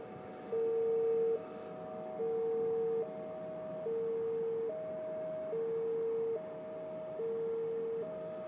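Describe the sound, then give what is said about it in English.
A two-tone alarm of unknown source goes off near a house, alternating evenly between a lower and a slightly higher pitched tone, each held just under a second, repeating steadily over a constant background hiss. “It's two tones, like some kind of alarm going off.”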